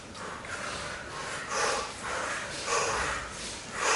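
Forceful, rhythmic breaths puff in and out at a steady quick pace, about six breathy bursts with no talking, from a person doing a paced breathing exercise.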